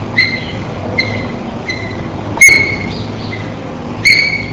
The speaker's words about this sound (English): The following examples are of high-pitched peep vocalizations, beginning with number 13, a chorus of food peeps. Example 14, alarm peeps.